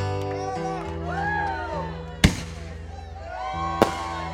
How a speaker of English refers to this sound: Let's hear fireworks now.